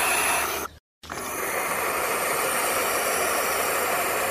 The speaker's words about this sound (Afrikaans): Die nonnetjies uile klink soos 'n radio wat nie lekker opvang nie, maar net so.